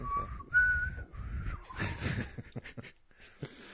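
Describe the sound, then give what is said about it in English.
Someone tries to whistle but mostly produces breathy air, with a couple of brief thin whistle tones breaking through before trailing into puffs and faint breaths, fairly quiet. “I smoked too much to whistle.”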